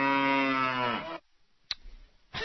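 A single loud cow moo, a drawn-out lowing call with rich harmonics that slides downward and fades after about a second, followed by a brief click and quiet before another sound starts.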